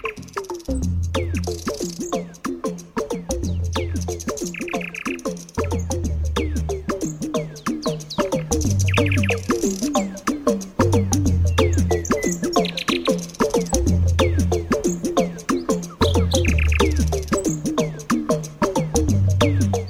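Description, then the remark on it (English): A nightingale sings continuously in rich, varied phrases of chirps, trills and whistles, clear, while a low, regular pulsing hum repeats underneath throughout. “Until then, it's goodbye from me and that nightingale.”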